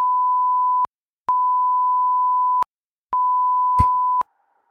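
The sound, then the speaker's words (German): Three long censor bleeps covering spoken names, steady mid-pitched tones about a second each, separated by short silent gaps, with a faint click during the last one; no voices come through underneath. “Oh, pass auf, ich sag die Namen, aber du piepst die nachher weg.”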